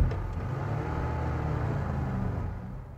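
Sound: car engine roaring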